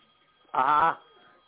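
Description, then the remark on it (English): A single short burst of a telephone ringing, a buzzy warbling tone lasting under half a second, fairly loud against a quiet background hum, with no one talking. “We got a phone call.”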